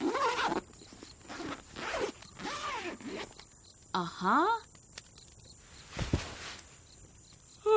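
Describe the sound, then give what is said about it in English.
A sleeping bag zipper is pulled up in several quick, raspy strokes, fairly loud, with short pauses between pulls and a final longer zip near the end. “And I zip up my sleeping bag.”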